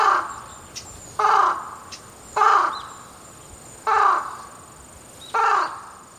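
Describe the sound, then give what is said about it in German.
A crow on the Kumano Kodo pilgrimage route in Japan caws five times in slow succession, each call a harsh, loud, drawn-out rasp separated by roughly a second of quiet. No one speaks. “die Ahnen raunen, den Krähengott schreien hören oder sogar die Riten der Yamabushi mitmachen.”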